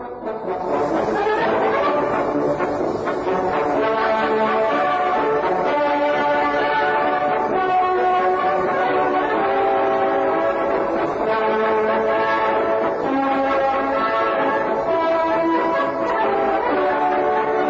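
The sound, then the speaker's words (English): A brass band plays the Zeppelin March, written in 1900 to commemorate the first airship built by Graf Zeppelin. Its full, steady chords and bright melody run continuously with the thin, muffled tone of an early recording. No one speaks. “Written in 1900, it is called the Zeppelin March, and it commemorates the first airship built by Graf Zeppelin in that year.”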